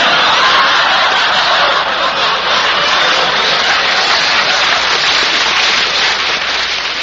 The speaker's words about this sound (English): I like that. The neighbors are applauding it.